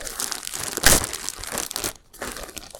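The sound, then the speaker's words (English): A snack bag of 'little chickens' crinkles steadily for nearly three seconds as the whole bag is poured out: a dense crackly rustle with one sharp loud crunch early on and a brief pause before the crinkling resumes. “Pour them, no, take the whole bag and pour it over my head.”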